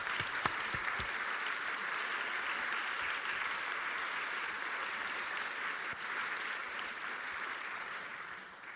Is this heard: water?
no